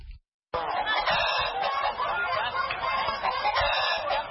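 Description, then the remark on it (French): A dense crowd of chickens clucking and squawking continuously and loudly at the chicken market in Bafoussam, a busy overlapping chorus of fowl after a brief moment of silence at the start. “Au marché de Bafoussam, l'association des vendeurs de poulets affirme qu'au moins 1300 volailles ont été envoyées dans les villes du pays mardi, malgré une épidémie de grippe aviaire.”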